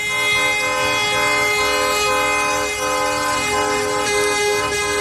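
Loud truck horns blare continuously during slow protest convoys of trucks in cities across Spain, part of the hauliers' indefinite strike, several overlapping sustained tones merging into one steady, droning honk with no pause for the whole stretch and no voices.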